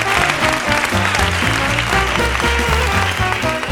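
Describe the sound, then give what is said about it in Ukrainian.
A circus crowd claps steadily and loudly for the whole stretch after a horse act in which a woman performs tricks on horseback, a dense wash of hand claps layered over music with a rhythmic, stepping bass line. “Звісно ж, всі хлопали, адже це неймовірно складно і захоплююче.”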